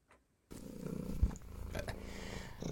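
A cat purrs steadily, a continuous low rumbling drone that starts after a brief silence and carries on with soft rhythmic pulses, with no talking.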